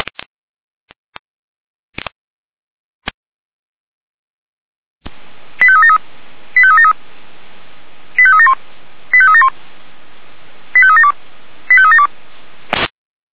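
Radio alerting tones for an emergency dispatch callout: a few sharp clicks, then steady static carrying six short, high-pitched electronic tone bursts in three pairs, ending with a click. No one speaks.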